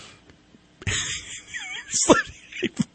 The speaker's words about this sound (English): You big yawn. On air, right in the middle of this great. I was on a roll here with B&T.